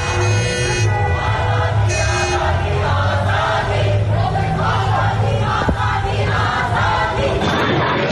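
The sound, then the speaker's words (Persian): A large crowd of protesters chants protest slogans loudly and steadily in unison in the street in Qazvin, voices rising in rhythmic shouted phrases with a constant roar of many people underneath. “در قزوین هم معترضان در خیابان شعار اعتراضی سر دادند.”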